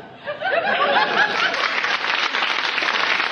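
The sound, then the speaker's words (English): A small crowd laughs and then breaks into steady, sustained clapping, the dense patter of many hands holding at a fairly loud level while the laughter fades beneath it. “Don't clap him.”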